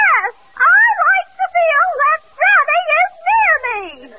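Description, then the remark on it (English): A voice imitates the wolf that swallowed Little Red Riding Hood's granny, yelping: about five or six loud, wavering yelps with rising and falling pitch, separated by short gaps, ending in a drawn-out whine that slides downward. “Folks, that was the original wolf that swallowed Red Riding Hood's granny.”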